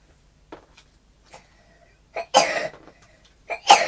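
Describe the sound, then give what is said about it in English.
A few coughs: faint short ones at first, then two louder, harsh bursts near the end, with quiet gaps between them. “Oh, the cough, cough, girl.”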